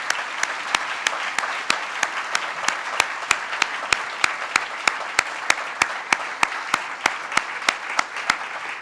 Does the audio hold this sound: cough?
no